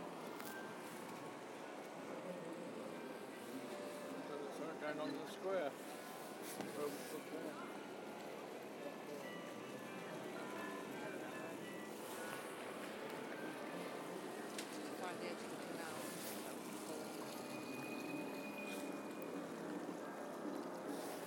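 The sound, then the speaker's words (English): A boat moves along on the water, its steady engine rumble and wash filling the scene, with indistinct voices murmuring in the background. “With a boat.”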